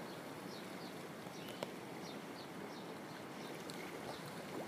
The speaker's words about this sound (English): Now spend some time listening to the ocean waves as you meditate peacefully.